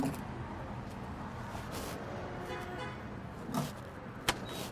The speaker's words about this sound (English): wearing sweatpants, parks his SUV by a gas pump, then grabs a handle and fills a small fuel container.